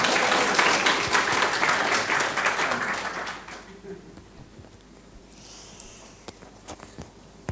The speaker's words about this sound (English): Applause!